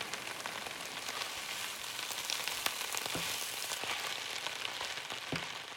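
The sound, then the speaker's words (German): Butter sizzling steadily in a hot pan as finely chopped food is sautéed, a dense crackling hiss with occasional sharper pops and spatters, moderately loud with no voices. “Und in Butter angedünstet.”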